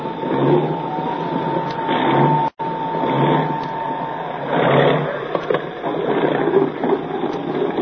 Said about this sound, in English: Well, don't you hear that, man? It's a plane. A good U.S. plane.